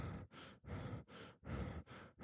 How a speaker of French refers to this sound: Respirer par la bouche va tout simplement vous faire respirer beaucoup plus rapidement avec une amplitude qui sera très faible.